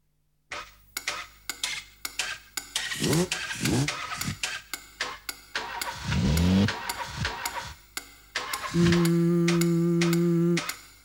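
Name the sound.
car engine revving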